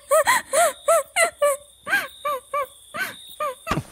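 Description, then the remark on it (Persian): Someone sobs in a rapid series of about a dozen short, broken, wavering cries with catching breaths between them, fairly loud and with no talking. “گریه نکن تو من. اگه از خودت ضعف نشون بدی میمیری.”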